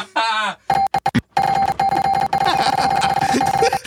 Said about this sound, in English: Oh! Most dings in 5 seconds.